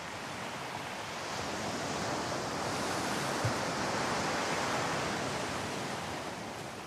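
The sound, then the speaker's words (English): Steady roar of ocean surf washing onto a beach at Durban, a broad hiss that swells gently and eases back over several seconds, fairly loud, with no voices. “And you know you're in Durban when you see the sea.”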